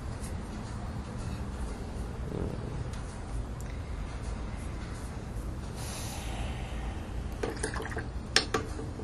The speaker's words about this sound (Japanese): 水の音とか絵の具がこうカチカチ曲がってる音とかですね、そういうのも聞いてもらうというか、まあね、今ちょっとねブルー空色ですね、空色をちょっといろいろ入れたりしておりますね。